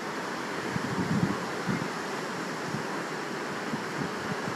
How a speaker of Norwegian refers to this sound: Det her, det er lyden af Vesterhavet. Heroppe i vores bøger i Thy.